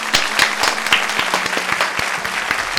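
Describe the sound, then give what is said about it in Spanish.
An audience at a radio program applauds a guest from the Dental Reverte clinics, a dense spread of sharp hand claps with a few louder individual claps standing out, sustained at a fairly even level throughout. “Un aplauso para ella.”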